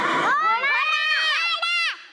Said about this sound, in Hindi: आपने थोड़ी बोलना है घोड़ा, टीम मदनी की बारी थी। घोड़ा, घोड़ा था ये।